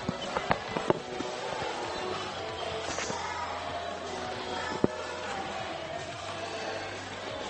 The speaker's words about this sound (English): Okay, should I be hearing something? Yeah, you should be hearing hailing.